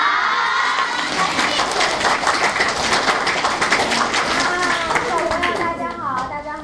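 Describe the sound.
An audience bursts into steady, sustained applause, many hands clapping in a dense wash while children's voices shout and cheer over it, tapering off slightly near the end.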